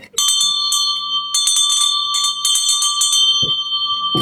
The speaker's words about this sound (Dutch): En je hebt je bel meegenomen. Ja, hè? Dus we kunnen het nu ook eventjes live doen, de aankondiging, toch?